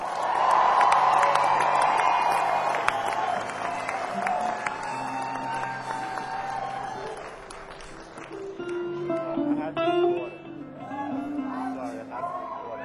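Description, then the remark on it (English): A crowd claps and cheers loudly and steadily as guitarist Cord Clement from Nashville is introduced with the band, with scattered whoops and shouts rising over dense applause that eases slightly toward the end. “And finally, also from Nashville on guitar, everybody give a big round of applause for Cord Clement.”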